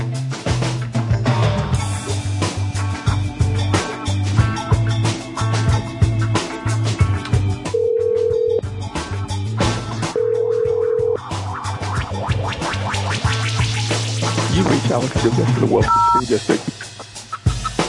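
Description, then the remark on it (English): A telephone call to the phone number of a job listing rings twice in short, steady tones, partly buried under a dense, loud wash of background sound, followed near the end by a brief pair of higher electronic tones. “Sorry, the operator is not available.”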